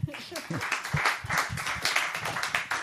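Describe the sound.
An audience applauds steadily at the end of a German talk event to thank a guest for coming, a dense crackle of many hands clapping at a fairly even level throughout, with some voices murmuring underneath.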